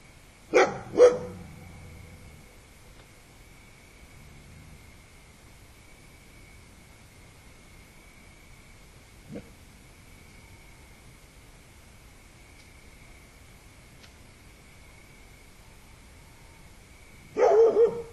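A dog named Benidi barks twice in quick succession, then stays quiet except for a faint yelp, before a final loud bark burst at the end over a steady high-pitched background hum.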